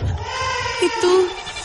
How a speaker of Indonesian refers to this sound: Itu tangisan bayi yang kemarin aku dengar. Dan suara itu terdengar tepat di belakangku.